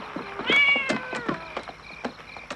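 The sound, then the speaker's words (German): A cat meows loudly and insistently, one drawn-out, wavering cry followed by shorter, fainter mews, with no talking. A cat heard in a house in a scene from the film Critters. “Und dann hört der Junge noch die Katze.”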